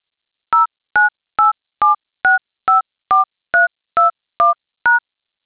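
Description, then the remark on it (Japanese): Eleven crisp touch-tone keypad beeps as a callback phone number, starting with the area code, is entered into an automated phone answering system, each a short dual-pitch blip at a steady, brisk pace, loud, with no voices. “次に、折り返し先の電話番号を市外局番からご入力いただき、最後にシャープを押してください。”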